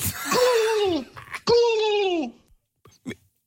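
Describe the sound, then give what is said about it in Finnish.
A person imitates a turkey with two strained, warbling vocal calls, each sliding downward in pitch, followed by a couple of faint short clicks and breaths. “Mikä hiljaa kituva kalkkuna?”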